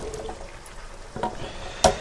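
Wet, sloppy tumbling as canned red kidney beans are tipped out of the opened can into a plastic colander, with a soft gurgle and two sharper plops near the end, fairly quiet, no voices.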